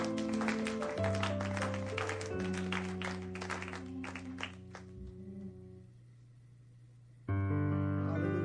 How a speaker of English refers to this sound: Come on, let's give our God a hand clap of praise.